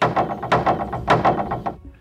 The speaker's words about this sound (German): Und das wippende Sprungbrett steht für die Zahl 3.